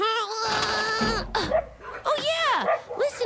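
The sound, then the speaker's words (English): A dog barks and yowls in a string of drawn-out, pitch-bending cries, loud and insistent, with hardly any pause between them. “A dog barking!”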